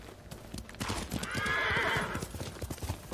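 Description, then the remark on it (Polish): A horse whinnies loudly in a long, wavering neigh while hooves clop in a steady rhythm underneath, clear with no one speaking. “To jest jakiś koń?”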